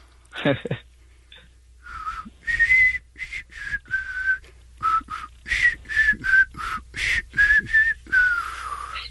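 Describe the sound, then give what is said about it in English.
A man whistles a song melody slowly, at half speed, for a guess-the-song contest, a halting tune of sustained tonal notes around mid-high pitch separated by short gaps, fairly clear, with a brief breathy sound at the start. “At least he's whistling it at half speed.”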